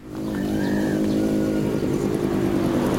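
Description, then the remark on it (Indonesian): A motorcycle engine drones steadily for the whole stretch as a mother and her child ride it, its low harmonic hum holding even with a brief rising whine near the start, no voices present. “Mereka berdua pergi dengan naik sepeda motor.”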